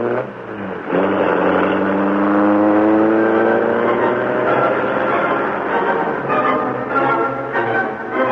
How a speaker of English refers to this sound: The doors slammed, the motor roared. As the great car leaped forward, a section of the wall slid up on oiled hinges, and the Black Beauty rushed into the darkness and the night.